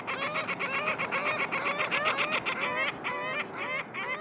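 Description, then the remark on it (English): A flock of ring-billed gulls calls continuously, overlapping harsh squawks and mewing cries in quick succession, fairly loud, with no one speaking; at Lake Osakis, Minnesota, on a hot summer afternoon. “That black band around their sharp yellow beaks means these are ring-billed gulls sharing your afternoon on the water.”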